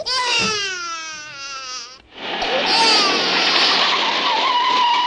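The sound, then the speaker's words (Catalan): A car screeches loudly with tyres skidding for about two seconds, then the engine roars and keeps whining as it speeds off, driven by a father leaving his family's home, a sustained high-pitched rush of motor and tyre noise. “I aquest cotxe sap conduir aquesta nena ja? No. És en Leo, que està marxant de casa.”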